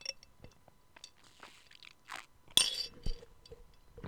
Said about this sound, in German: Ich schlürfe noch mal was.